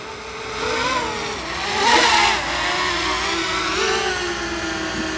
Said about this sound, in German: Klingt nach einer Drohne. Was ist so dein Gefühl, wie stabil die jetzt gerade in der Luft steht? Wirklich sehr stabil.